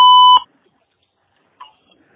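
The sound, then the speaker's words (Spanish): A voicemail service's recording beep: a loud, steady electronic tone with a clean high pitch and a bright overtone lasts about a third of a second, then cuts off, followed by near silence and a faint brief click. “Grabe su mensaje.”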